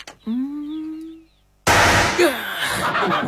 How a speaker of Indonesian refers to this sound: Bunyi kan? Nah, begitu cara menggunakannya. Tapi harus hati-hati. Iya. Setiap kali meledak, pistol ini melepaskan peluru tajam. Peluru itu terbang melesat seperti kilat dan menembus apa saja yang ada di depannya. Kalau kena dinding, ya jebol.